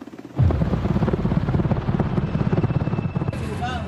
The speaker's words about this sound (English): And that helicopter has just inserted snipers for the protection of all these federal agents you can see entering the building. Hundreds of agents surround an apartment complex.